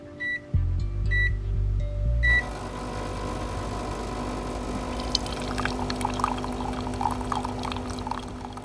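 A coffee machine in a staff break room gives a few short electronic beeps over a loud grinding hum, then stops and liquid pours steadily into a cup as someone gets more coffee, with no talking.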